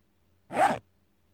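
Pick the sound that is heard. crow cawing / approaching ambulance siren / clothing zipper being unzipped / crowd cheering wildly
clothing zipper being unzipped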